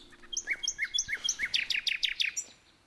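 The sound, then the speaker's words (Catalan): A bird chirps in a quick, steady series of bright, high notes, about a dozen short tweets in rhythm, clear, with no talking. “Els agrada aturar-se a mirar una fulla o escoltar un ocell.”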